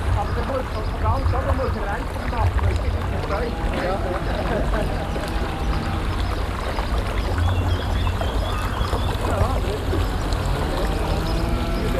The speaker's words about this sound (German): Er hat ihn extra hier platziert, um uns anzugeben, dass die Aare hier durchfließt. Wunderbar. Wie die stille Aare plötzlich wegen eines einzelnen Astes beginnt, ein bisschen wie ein kleiner Bergbach zu plätschern.